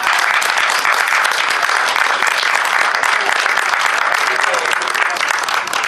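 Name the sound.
audience applause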